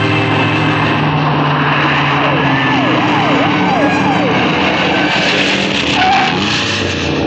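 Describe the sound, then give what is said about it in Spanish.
A police patrol car's siren rises and falls in quick, repeated sweeps over a loud, steady roar of engine and road noise, continuous throughout. “Nadie nos detendrá si ponemos a funcionar la sirena.”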